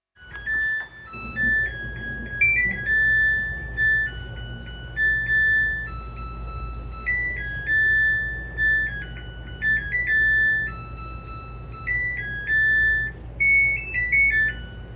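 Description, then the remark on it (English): A washing machine plays a bright electronic chime melody, a string of clear, pure beeping notes stepping up and down in pitch over a low steady hum, with no one talking. “Have you noticed that your appliances have suddenly begun to serenade you? Listen to this washing machine.”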